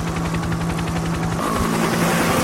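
A helicopter roars, its rotor blades thumping in a fast, steady rhythm over a continuous engine whine. The sound stays loud and even throughout, with no voices.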